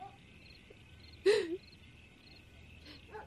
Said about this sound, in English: Isn't it shameful that you're scared of a dog's barking?